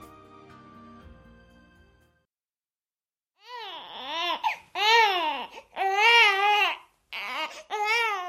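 A newborn baby cries in loud, close, repeated wails with brief gasps between them, following a short stretch of soft music and a moment of silence.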